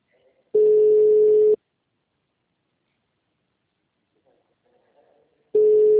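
A phone call to Rondônia, Brazil rings with no answer: a steady, mid-pitched ringback tone sounds for about a second, falls silent for four seconds, then starts again. Faint rustling fills the gap.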